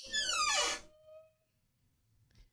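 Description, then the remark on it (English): A loud creak of a square door opening: one drawn-out squeal whose pitch slides downward for under a second, followed by a lingering faint tone and quiet low rumbling. “You hear a square door creak open.”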